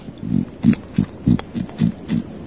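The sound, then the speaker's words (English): A pig oinks in a quick series of about seven short, low, snuffling grunts, evenly spaced, with no voices over them. “I mean, when one of your legs is a pig, people can't help saying, "Oh, there's a pig there."”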